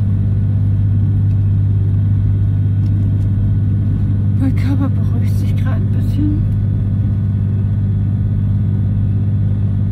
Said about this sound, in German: Ja, hab jetzt 40 Minuten Zugfahrt.